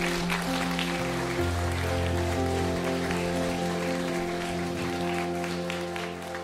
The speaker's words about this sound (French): Est-ce que les personnes qui, dans leur cœur, ont fait cette prière de confession, est-ce que nous, l'Église, on peut les encourager et les applaudir parce qu'ils viennent de faire un choix tellement important?